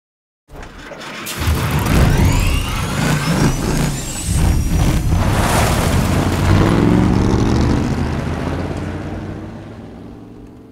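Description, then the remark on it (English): A loud car engine starts up with a rising mechanical whine, layered with quick sewing-machine spin-ups standing in for the belt of the motor sticking out through the hood, then settles into a steady rumbling roar that slowly fades near the end. “So there were other things to help sell that whine and startup that weren't just car motor things.”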